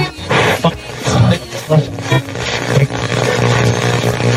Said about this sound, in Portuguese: Opa, opa, opa, parece que alguma coisa aconteceu. Pera, será que seu rádio saiu do ar? Ou a sintonia não estava certa? Não se preocupe, foi apenas uma forma de chamar sua atenção para a temática tão especial que vamos abordar hoje.